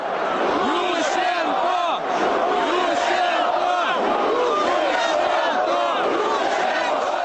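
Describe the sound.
A massive protest crowd in Kiev's central Independence Square, Ukraine, waving flags, singing national songs and shouting an opposition leader's name, shouts and roars continuously, countless overlapping voices forming a loud, dense wall of chanting and yelling that barely dips for the whole stretch.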